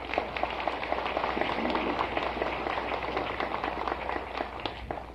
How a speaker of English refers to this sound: And I think they've done a magnificent job, and I think we ought to give them a good round of applause.